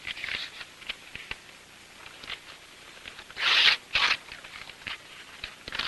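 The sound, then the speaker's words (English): An elderly man tears a folded handwritten letter into tiny pieces: two sharp, loud rips in quick succession, surrounded by softer crinkles and small tearing sounds, with no voices. “As he rips it into tiny pieces, a sad expression forms on his wrinkled face.”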